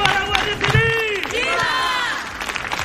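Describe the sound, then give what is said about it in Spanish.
A crowd in Barbate shouts together against the minister, Marlaska, crying "asesinos" (murderers) in loud, overlapping angry cries, several voices rising and falling in pitch, with scattered clapping and a constant murmur underneath. “Allí se han escuchado gritos contra el ministro, gritos de asesinos.”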